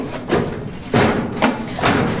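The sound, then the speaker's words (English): A heavy hangar door thuds shut, with several loud, booming impacts in quick succession and a resonant rumble in between. No one speaks. “Quickly, that's the hangar door.”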